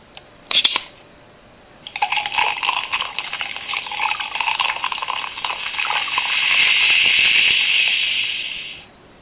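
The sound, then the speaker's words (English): A few sharp clicks, then a drink is poured steadily into a glass for several seconds, the splashing tone rising as it fills. Fairly loud, with no talking. “and we're going to pour us one right quick.”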